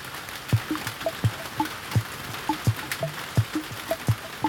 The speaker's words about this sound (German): Wieder regnet es fürchterlich. Es ist kalt und ganz widerlich. Nach draußen gehen geht wieder nicht. Der Regen hört nicht auf.